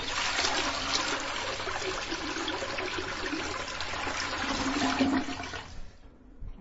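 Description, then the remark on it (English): A toilet flushes, a loud rushing whoosh of water that holds steady for several seconds before draining away and tapering into quiet trickles at the end. “A half hour later, he knew why it was called rampaging chicken, as he did another courtesy flush.”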